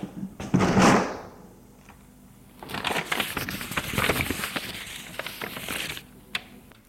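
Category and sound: household object, desk drawer being opened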